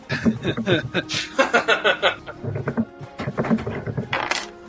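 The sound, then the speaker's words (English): A twenty-sided die rattles and clatters across a tabletop in a quick burst of hard clicks, while people chuckle and laugh over it. “Did somebody roll some dice? It was a D20 dice from Dungeons & Dragons”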